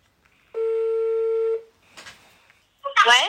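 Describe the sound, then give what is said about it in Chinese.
A phone line's ringback tone sounds once as a steady, clear buzzing note lasting about a second while calling someone in a residential complex across from the Huanan Seafood Market in Wuhan, followed by a brief rustle and then a voice answering. “好， 行，那咱们就给他打这个电话， 咱们就给他打这个电话。”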